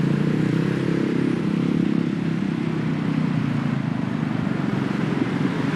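A dense, continuous rumble of about thirty motorcycle engines idling and revving all around in completely blocked traffic, a steady low drone with no break and no voices.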